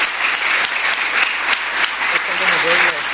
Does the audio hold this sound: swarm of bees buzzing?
no